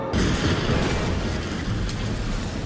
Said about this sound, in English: But one of the rarest kinds is thunder snow. It's a strange and powerful combination, thunder and lightning during a snowstorm. Oh! Listen to that!